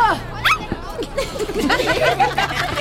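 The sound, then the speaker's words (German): A dog in a basket barks in a quick series of short, high yips and yelps, with whiny tones mixed in, continuing for a few seconds. “Es ist nicht witzig, wenn Hannibal mal bellen muss.”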